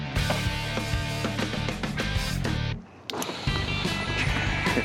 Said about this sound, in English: This Seascape Kiddie Ride has been a real fun project. Everything's basically ready to go. All we have to do is test the motor and start reassembling this thing.